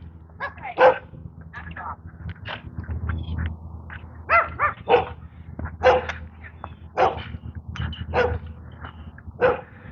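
A dog barks repeatedly, roughly a dozen sharp barks in an uneven rhythm, loud, over a steady low rumble of outdoor background noise.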